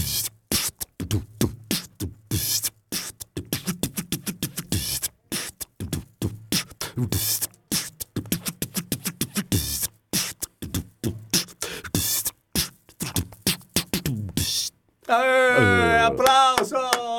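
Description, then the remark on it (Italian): A single voice performs live beatboxing on Radio Time, making drum sounds with only the mouth: a fast, steady groove of punchy kick-like thumps, sharp clicks and hissing snare bursts, then ends with a loud stretch of pitched, warbling vocal tones. “Ecco, okay, facciamo capire cos'è la beatbox live”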